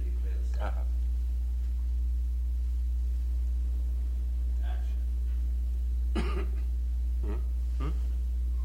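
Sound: a little cough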